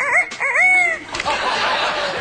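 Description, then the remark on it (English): A person imitates a rooster's crow, a short rising and falling vocal call lasting about a second, followed by a breathy, noisy burst. Fairly loud, with no background sounds. “How about a rooster?”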